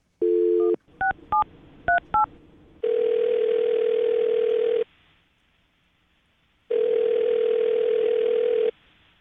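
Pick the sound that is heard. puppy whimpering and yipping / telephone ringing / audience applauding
telephone ringing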